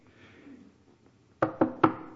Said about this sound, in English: For those of you who heard me preach before, you know that when I knock on the podium, I'm going to say something important. So sit up.